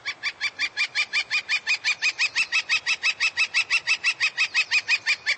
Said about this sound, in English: If it sounds like a steel band has moved in, try to be patient. As spring moves along, the woodpecker will find a mate and lose interest in hammering on your house.